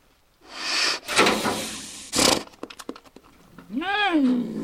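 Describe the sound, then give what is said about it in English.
A black bear cub paws at the door of a trap made from a large section of culvert pipe with a metal grate on one end: rough scraping and rattling bursts, a quick run of light knocks, then a short rising-and-falling whine near the end. “The little black bear cub didn't make much noise as it pawed at the door of the trap, a large section of culvert pipe with a metal grate on one end and a door on the other.”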